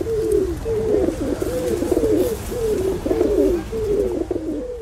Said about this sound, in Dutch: Ik heb hier ook bij ons enige honderden duiven rondvliegen die leven van hetgeen ze vinden in de paardenkribben en elders.